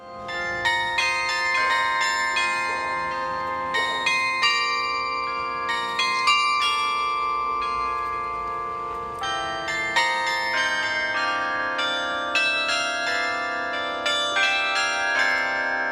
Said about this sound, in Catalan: seguidament s'han tocat dues peces amb el Carilló. Una d'elles, aquest rosó de Josep Ribas